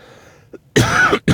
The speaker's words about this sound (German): jetzt habe ich seit anderthalb Wochen ein bisschen Husten. Dieser Husten, ja, jetzt so seit anderthalb Tagen ungefähr ist das besser geworden. Jetzt gerade, wo ich sage, ist besser geworden, da kommt dieser Hustenreiz wieder natürlich. Einen Moment.